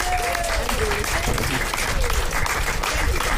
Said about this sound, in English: We've heard some incredible poetry this morning. Let's give yourselves and everybody else another round of applause.